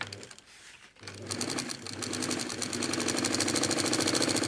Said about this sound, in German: sitzt an seiner Nähmaschine. Durch seine Finger gleiten lange, flache Streifen, leicht keulenförmig, in beigen, weißen oder braunen Farbtönen. Es ist Fischleder, also die Haut von Fischen, die er gegerbt hat.